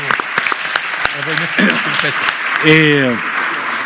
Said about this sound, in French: Applaudissements